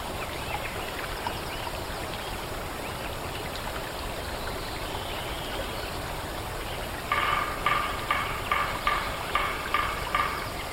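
A sparse forest soundscape recorded a year after logging, dominated by a steady rush of flowing water; near the end a single bird-like call repeats in a quick, even series of short bursts.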